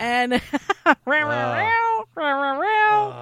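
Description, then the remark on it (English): A cat, Pip, meows fairly loudly: a few quick clipped chirps, then two long, drawn-out meows that bend up and down in pitch, with only a brief gap between them. “It's the All Wynwood and Cat Network.”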